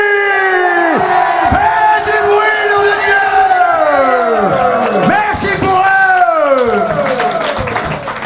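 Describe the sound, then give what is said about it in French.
A large audience shouts and cheers loudly and continuously to register on an applause meter, many voices rising and falling in overlapping yells, filling the space for several seconds without pause. “Par contre, j'ai un cahier des charges, celui de vous entraîner à crier très fort et à faire du bruit pour l'applaudimètre.”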